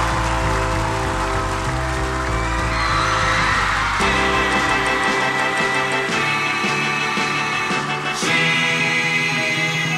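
A crowd claps and cheers with scattered whoops, mixed under loud band music with steady bass and sustained chords that shift every few seconds.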